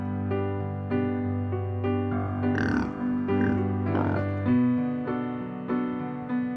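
A piano-led instrumental song with steady sustained notes and regular chord changes, joined midway by a couple of rough, snorting grunt-like sounds woven into the music. No voices.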